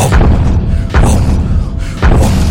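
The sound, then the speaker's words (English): Three heavy, booming thumps as something heavy strikes a wooden barn door, loud, spaced about a second apart, with a low rumbling resonance filling the gaps and no voices. “Something heavy thumped against the barn door, and the three of them swung around to face it, and it came again.”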